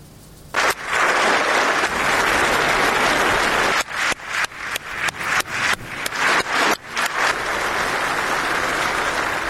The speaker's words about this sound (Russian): На заседание в качестве почетной гости пригласили жену президента Украины Елену Зеленскую. Ей аплодировали стоя.